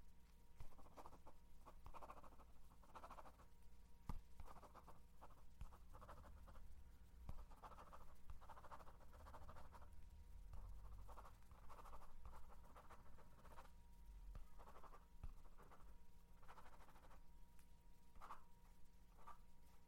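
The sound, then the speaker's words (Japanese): A pen scratches across paper in short, irregular strokes and pauses as someone fills in a questionnaire, quiet, over a steady low background hum with no one speaking. “この紙に、したくないことと、ちょっとしたアンケート、答えてくれる？”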